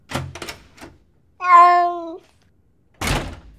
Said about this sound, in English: Margaret put her outside and closed the door.